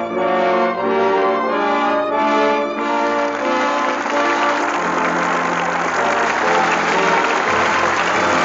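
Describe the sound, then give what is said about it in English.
A sustained musical chord gives way to a large audience applauding at the Lux Radio Theater as Jimmy Stewart and Joan Blondell come to the footlights for their curtain call, a dense, steady wash of clapping that stays loud through to the end with no voices. “With that well-deserved applause, our thanks to Jimmy Stewart and Joan Blondell, who come to the footlights for their curtain call.”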